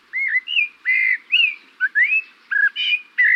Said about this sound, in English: This bird song seems familiar, intriguing. It's the song of the Eurasian blackbird.